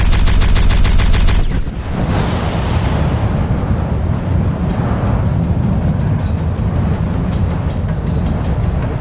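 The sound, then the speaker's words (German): A gun that emerges from a hatch on a roof, aimed at a ship, fires a rapid, loud burst of shots for about a second and a half, followed by a heavy blast that leaves a long, roaring rumble. “Auf dem Dach öffnet sich eine Luke. Ein Geschütz erscheint, visiert das Schiff an. Auf Wiedersehen, Freunde. Und feuert.”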